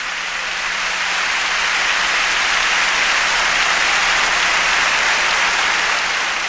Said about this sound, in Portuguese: E palmas pro Senhor Jesus, eu quero ouvir bem forte.